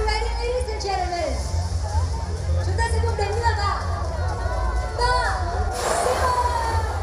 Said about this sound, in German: Also man sieht da auf diesem Video, es ist ein großes Zelt aufgebaut, viele Leute sind da, auch der Premierminister von Vietnam. Und Eric Trump kommt dann im schwarzen SUV, steigt aus, die Leute jubeln.